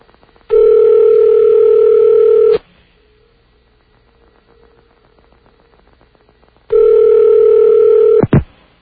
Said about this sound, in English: Oh, good. His line is ringing. It's a good sign when the line is ringing.